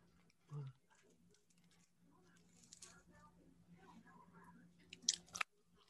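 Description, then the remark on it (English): Mouth sounds of someone chewing French fries, with soft wet munching and light crunches, ending in a couple of sharper clicks. Faint voices murmur in the background. “you're eating those fries out of the bottom right corner of your mouth”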